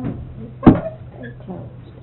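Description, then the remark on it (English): A door shuts once with a single solid, short thump over a low background murmur of voices. “Close the door.”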